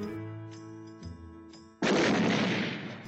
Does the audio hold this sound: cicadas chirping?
no